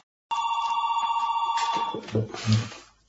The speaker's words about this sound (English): The phone is driving you crazy.